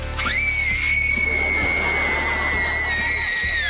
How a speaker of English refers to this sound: Why did we just scream?